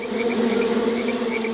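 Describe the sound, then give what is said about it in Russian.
A steady insect buzz drones on without a break, like a cloud of mosquitoes and midges whining and humming together in a swamp, with no voices present. “Сидела она в болоте, ловила комаров да мошку.”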